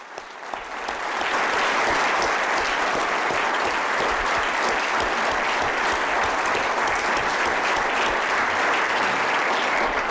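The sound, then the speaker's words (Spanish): An audience at a conference applauds the hosts, the clapping swelling within the first second or two into a steady, dense wash of many hands that holds loud and even until the end. “que pensé que tal vez haría lo inapropiado y hacerlo ahora a favor de todos nosotros y decir que hemos disfrutado mucho hasta este momento, el calor de ustedes, han sido muy eficientes y tal vez todos nosotros deberíamos aplaudir a los anfitriones.”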